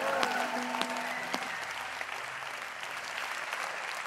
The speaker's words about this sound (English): Give Jesus another great hand clap today.